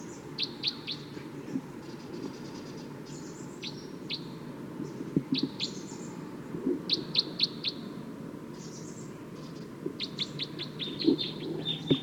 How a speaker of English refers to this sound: Wild bird's approaching a little bit closer now. Stop. So recording wild bird's calling loud now, as well as the decoys. Stop. It's recording wild bird pretty loud now.